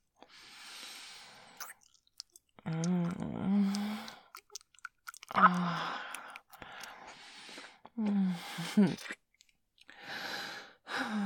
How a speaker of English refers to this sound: Having a tongue licking and sucking and slurping all over that sore, sexy, wet pussy.